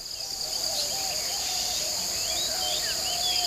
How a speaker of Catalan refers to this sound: A les 5 de la matinada, el despertador de la selva no perdona. Els cants dels ocells, els rugits dels pumes, tots ells desperten